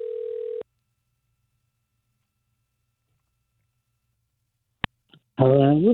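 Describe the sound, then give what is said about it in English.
A steady electronic telephone ring tone on a call line cuts off abruptly, followed by several seconds of silence, a sharp click as the line connects, and then a voice begins speaking. “Our phones are weird. It'll probably start ringing.”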